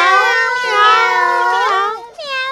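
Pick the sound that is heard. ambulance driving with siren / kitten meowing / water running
kitten meowing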